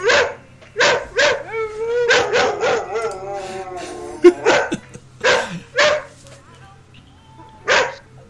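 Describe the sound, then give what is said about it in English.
A dog, Oz, barks repeatedly in short, loud bursts, mixed with whiny, whimpering yelps and a drawn-out howling whine in the middle, over a low background hum. “Now, see, he seemed very upset, so I'm only going to exploit my dog for that few seconds.”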